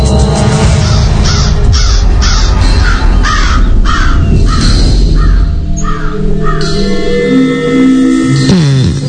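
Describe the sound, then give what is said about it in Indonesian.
A large black bird, like a crow, caws harshly several times in a quick series, loud, as it suddenly flies out of a room through a window, over a constant low rumbling background; the calls stop and the noise carries on. “Saat aku masuk, aku sedikit dikagetkan dengan seekor burung yang tiba-tiba saja terbang keluar dari jendela.”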